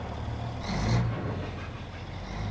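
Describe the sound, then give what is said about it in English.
Steady low engine rumble of tractors and other heavy machinery at the fishing docks of Dutch Harbor, Unalaska, with a brief hiss and a swelling tonal hum near the middle before settling back to a continuous drone. No voices. “The docks are bustling with tractors and other heavy machinery.”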